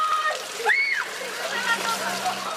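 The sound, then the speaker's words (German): Water splashes and sloshes while people shout and chatter in the background, with one bright rising call cutting through the lively, noisy outdoor scene, as women are doused with water on Easter Monday (Wet Monday) in Poland. “Der nasse Montag, das Benässen junger und weniger junger Frauen ist vor allem hier verbreitet.”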